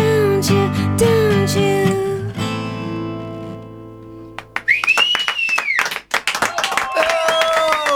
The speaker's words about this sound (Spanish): Hay aplausos detrás de los vidrios también.